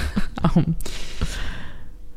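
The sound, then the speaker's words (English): A breathy yawn from one person: a short voiced stretch that opens into a long airy exhale and fades out over about two seconds. “Because you didn't want to yawn during my story.”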